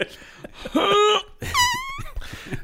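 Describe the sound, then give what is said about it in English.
A comedic fart sound effect: a few loud, squeaky, tonal blasts that wobble and bend in pitch, the longest one wavering near the end, with no one talking. “Dude, that's a very funny and very classy fart.”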